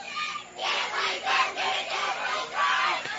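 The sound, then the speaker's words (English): The Washington County crowd cheers and yells at a winner-take-all softball game, a loud, steady roar of many voices swelling in repeated surges with no clear words. “And this Washington County crowd has really picked up the volume in this game, too. As they're having the time of their lives cheering on the girls to get a victory here.”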